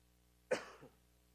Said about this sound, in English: Forgive me for the coughing.